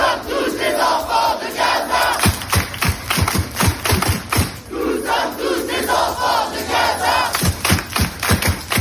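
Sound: protesters chanting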